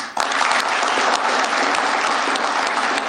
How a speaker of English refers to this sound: Wait, can you play the applause just though real quick? Because that was weird. I just want to hear the applause real quick.